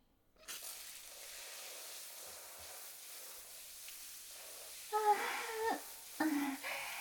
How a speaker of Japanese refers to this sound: 気持ちいい。やっぱバイトした後のシャワーは格別だよ。疲れごと流れ出る感じがする。